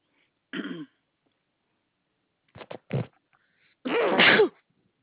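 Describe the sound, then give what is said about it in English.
A brief throat-clearing sound, then a couple of quick sharp bursts, and finally a loud, full sneeze, with quiet gaps between each sound. “Bless you.”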